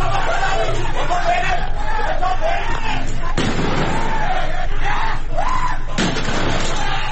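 Two sharp, loud bangs of gunfire and explosions cut through a constant roar of shouting and screaming crowd noise during violent clashes between protesters and government forces in the town of Qahderijan, Isfahan province, Iran, on a Wednesday evening.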